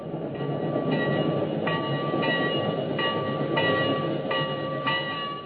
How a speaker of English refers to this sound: and that lovely bell on the locomotive keeps ringing, ringing. Why does all your heart and soul move with that train? Why do you feel a tension, as if something were pulling you?